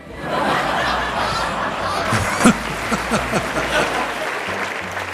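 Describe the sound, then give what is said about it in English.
A crowd applauds with steady, dense clapping throughout, joined by scattered cheers and a few bursts of laughter rising above the sustained roar. “This is like prisoners cheering the warden.”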